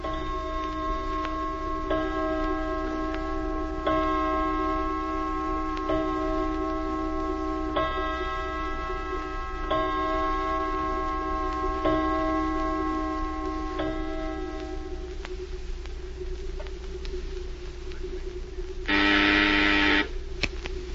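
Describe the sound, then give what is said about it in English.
A clock ticks steadily and evenly over a sustained humming tone, with no voices, and a brief loud buzzing burst cuts in near the end. “Look at the clock.”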